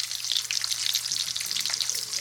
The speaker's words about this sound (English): Butter's cooking up some home fries.